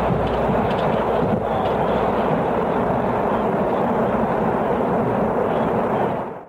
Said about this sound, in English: 10, 9, 8, 7, 6, 5, 4. Holding momentary. Ignition. 3, 2, liftoff.